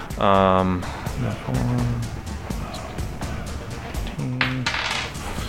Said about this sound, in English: So I rolled absolutely garbage on 2d8. That's what happened. But I rolled a 7 on precision. So double that.